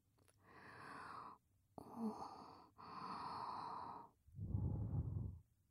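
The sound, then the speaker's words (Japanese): Four soft, breathy blows of air into the ear as the finishing step of an ear cleaning, each lasting about a second; the last one lower and fuller, like a gentle puff. No talking. “ほら、お耳フーフーだよ。”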